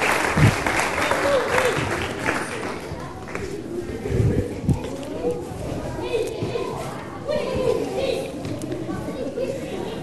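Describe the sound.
An audience claps steadily for about ten seconds, a dense, even patter of many hands, with children's voices and chatter mixed in underneath.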